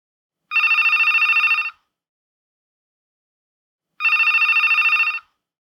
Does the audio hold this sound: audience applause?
no